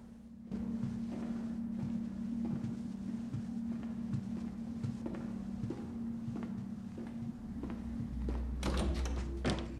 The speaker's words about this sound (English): They both hear the sound of a distant door opening.